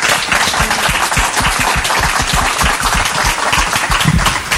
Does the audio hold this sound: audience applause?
yes